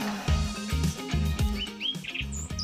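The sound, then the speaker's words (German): Birds chirp and sing in quick, bright whistled notes, layered over a steady rhythmic music bed with a pulsing low beat; no one speaks. “Hört ihr das? Und damit ist irgendwie auch schon klar, was heute unser Thema hier in Zebra 4 forscht ist. Nämlich, es geht um Vögel.”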